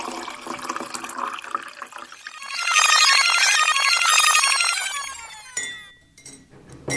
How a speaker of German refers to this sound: So, warte kurz. Ich gieße ein.